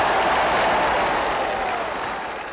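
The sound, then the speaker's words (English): A crowd cheers and claps as Dr. King speaks, in a dense, continuous roar of applause with no single voice standing out, holding steady and then tapering off slightly at the end. “When he spoke, the crowd cheered and clapped.”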